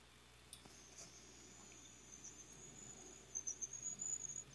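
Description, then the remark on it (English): A thin, high-pitched cricket-like squeak trills steadily and faintly throughout, growing louder into a series of rapid pulsing chirps near the end. No one speaks. “See, I hear that squeaking now, too. That's like crickets or something.”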